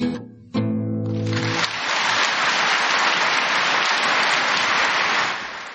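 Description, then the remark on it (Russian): A sustained final musical note on a live concert recording gives way to the concert audience clapping: dense, steady applause that swells quickly, holds at full loudness for several seconds, then begins to taper off. “Ну, вы слышите, как хлопают.”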